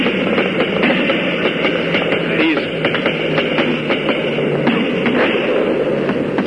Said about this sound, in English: These enemy guns all around us are just simply hammering at those planes. But so far I haven't seen anything, I've seen any of them hit.